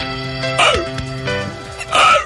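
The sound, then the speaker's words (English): A person imitates a seal with two loud, raspy, barking honks separated by a short pause, each rising and dipping in pitch, over a steady low background hum. “I can do a good seal.”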